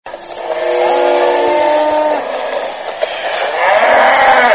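A herd of several hundred cattle lowing together as a Mororo rancher leads them to graze in the French-speaking village of Balamba, near Bafia town in central Cameroon. Several overlapping long, drawn-out moos rise and fall, with a steady outdoor background and no talking.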